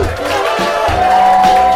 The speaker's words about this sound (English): Well, guess what? Love It or Leave It is coming out of beta mode tonight. Let's start the show. I want applause, people.